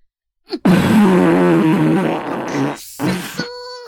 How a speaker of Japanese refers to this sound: ほんと、便秘ってつらいよね。お腹はつらいし、へもくっさくなっちゃうし。